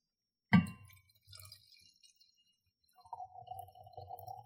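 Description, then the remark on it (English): A glass clinks sharply, then after a pause a 2020 Shiraz red wine, decanted for about 45 minutes, gurgles steadily from a decanter into glasses, a soft, continuous pour with a faintly ringing tone. “Yeah, so you can hear this going into the glasses.”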